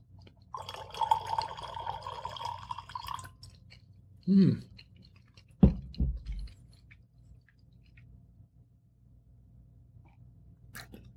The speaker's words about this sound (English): I'm gonna pour some more wine.